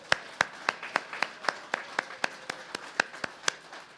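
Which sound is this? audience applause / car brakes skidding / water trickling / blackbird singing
audience applause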